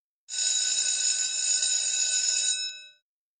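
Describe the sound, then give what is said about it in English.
A school bell rings to signal the start of a lesson, in one loud, continuous burst of bright, metallic rattling for about two and a half seconds, then cuts off sharply with a brief ring-out. No one speaks. “The bell has gone.”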